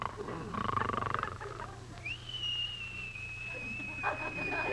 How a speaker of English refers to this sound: The only time he whistles at me is in his sleep.